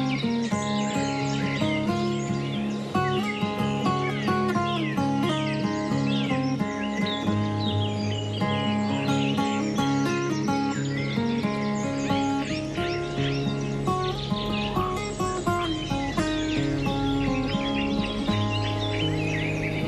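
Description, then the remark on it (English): A common cuckoo calls amid a dense, steady wash of other birdsong and chirping, the sounds continuous and fairly loud throughout with no talking. “Cuckoos are famous for laying their eggs in the nests of other birds.”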